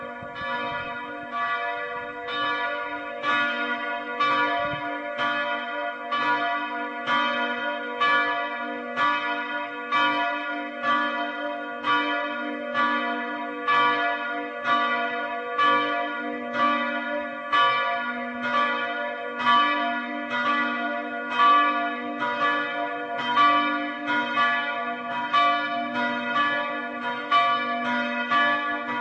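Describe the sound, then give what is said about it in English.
Church bells peal steadily, their rich, ringing strikes repeating in a quick, even rhythm for the whole stretch with overlapping tones and no voices. Two regularly rung bells: a 17th-century bell moved from a church in central Bohemia in 2001, and a new bell cast in 2006. “So now there are 2 bells here that are used regularly.”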